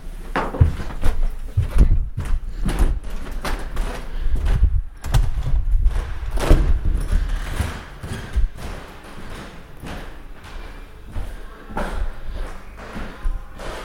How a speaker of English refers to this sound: so you folks get to hear the very creaky floors of this building when I'm off to the upper story.